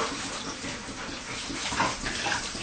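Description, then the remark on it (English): Filtered, drinkable water runs steadily from a tap, a continuous splashing hiss that holds at an even level throughout, with no voices over it. “And if you open like that, the water come out, it's clean, you can drink it directly, so.”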